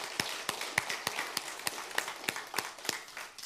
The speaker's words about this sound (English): Let's give the Lord and them a big hand of applause. I'm thrilled they're here.